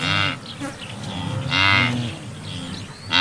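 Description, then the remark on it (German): Several Serengeti white-bearded wildebeest grunt in low, relaxed, droning calls that overlap one after another, steady, over a bright background buzz of insects; no one speaks. “Und das tiefere, entspanntere Grunzen, das sind die Gnus.”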